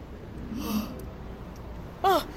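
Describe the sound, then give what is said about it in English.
A soft, breathy yawn rises and falls in pitch, quiet, followed after a pause by a short, sharper voiced sound near the end. A person in Berlin yawns to clear an ear blocked by pressure from an airplane flight. “Try yawning.”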